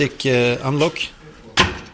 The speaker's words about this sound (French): Avec ma puce, je peux ouvrir différentes portes, qui peuvent avoir des codes différents. Je peux aussi ouvrir ces casiers à fermeture magnétique.